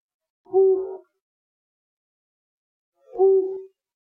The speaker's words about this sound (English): Flammulated owl. You didn't even hear half the hoot before you answered.